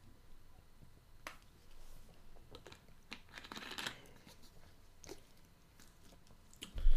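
Quiet sips from a bottle of Propel Zero flavored water: soft mouth clicks and a brief slurping swallow midway, then a louder bottle clunk at the end, with no talking.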